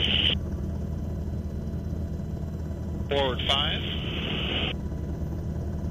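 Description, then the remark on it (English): A loud, steady helicopter rumble fills the whole recording as the helicopter hovers over a rescue swimmer so he can attach himself to the hoist and return to the helicopter, with a radio voice crackling in briefly at the start and again midway over the engine noise. “After the dummy is returned to the helicopter via the basket, the helicopter hovers over the rescue swimmer so he can attach himself to the hoist and return to the helicopter.”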